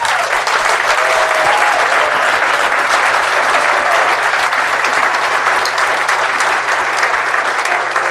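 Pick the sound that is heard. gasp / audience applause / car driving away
audience applause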